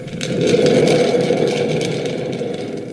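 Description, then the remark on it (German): A homemade thunder effect made by a sound-effects artist: a loud, sustained rumbling roar with a rattling, grainy texture that swells in and holds steady for a few seconds before easing slightly. No one speaks. “Und ich mach mal den Donner hier.”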